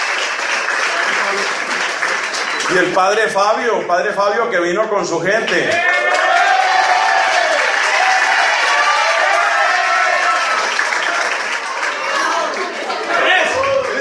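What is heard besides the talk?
audience applause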